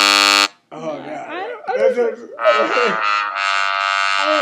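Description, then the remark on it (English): A short, loud, harsh wrong-answer buzzer sound effect blares at the start, being tested for when someone gets an answer wrong. After a brief pause come wavering voice-like sounds, then a long, raspy buzzing tone that holds steady to the end. “I'm testing out some like sound effects. So like when you get it wrong, you buzz it.”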